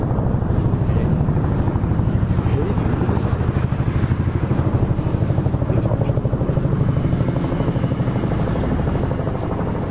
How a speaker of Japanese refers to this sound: ヘリがうるさいのでちょっと建物の中に入ってみました。まあ多分まだうるさいですけど、今まで喋っててヘリの音が入り込むっていうのはまずなかったね。